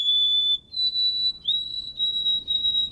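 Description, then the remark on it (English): A white-throated sparrow sings clear, pure whistled notes, a lower tone stepping up to a higher one and then held in sustained, slightly wavering phrases, bright with no talking. “Those cheerful whistles are easily set to human words.”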